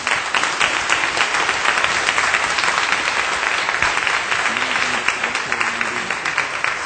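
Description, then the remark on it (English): Sustained audience applause for graduates, a dense, steady wash of many hands clapping at an even loudness for several seconds, with no individual claps standing out. “Now let's applaud all of our graduates.”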